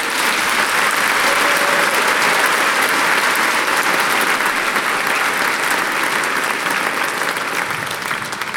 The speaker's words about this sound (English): Please give a warm round of applause to our orchestra,